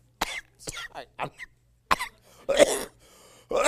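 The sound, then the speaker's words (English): A series of harsh, raspy coughs in short bursts with brief pauses between, ending in a couple of heavier hacking coughs. It is a lingering cough left over from a recent illness, not COVID. “I have a horrible cough.”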